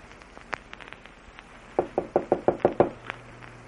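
A rapid series of seven firm knocks on a wooden door of a manor house, loud, evenly spaced, preceded by a few faint scattered taps against a quiet background.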